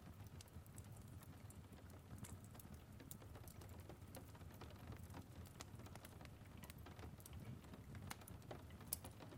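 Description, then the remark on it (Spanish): Small raindrops tap against a cold glass window pane in an irregular, steady patter of sharp little ticks over a soft, constant low rumble of rain, fairly quiet, with no voices. “Y después te acercas a observar la lluvia a través del frío cristal, mientras observas cómo las pequeñas gotas golpean la ventana.”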